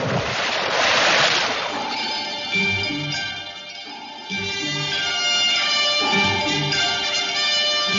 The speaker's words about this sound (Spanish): ¿Les apetece ver más de cerca lo que ocurre por esas profundidades? ¿Sí? Pues démonos un chapuzón.